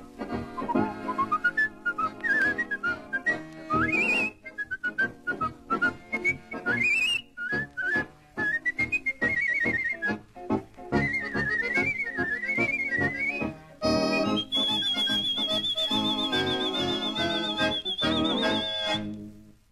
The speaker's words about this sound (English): The whistle we girls are waiting for.